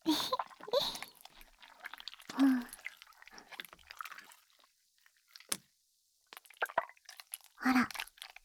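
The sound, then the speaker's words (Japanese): Wet, fizzing cleaning sounds come in short squishy bursts, with crackly squeaks and a few sharp clicks between quieter pauses. “確かにシュワシュワした音、うん、聞こえるかな。”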